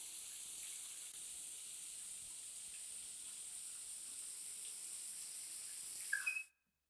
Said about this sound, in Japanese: 一旦背中の泡流しちゃうね。 シャワー熱くない？ うん、じゃあこのままね。